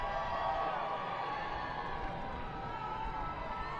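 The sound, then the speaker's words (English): Steady stadium crowd noise at a Woo Sox baseball game during a five-run seventh inning, a dense, continuous wash of many voices blending into an even roar, with no single voice standing out and no rise or fall. “So I think with the crowd noise, I don't think he could hear the pitch come.”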